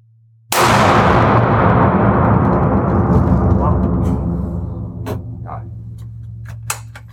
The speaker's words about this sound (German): Gut, zweiter Schuss.